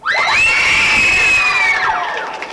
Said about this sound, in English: Go ahead, cheer.